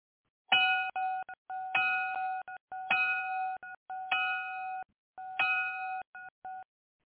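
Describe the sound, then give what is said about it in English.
An electronic bell rings in five evenly spaced bursts, each a bright sustained tone trailed by a couple of quick short blips. It sounds clear, with no voices. “Seconds for the bell to ring.”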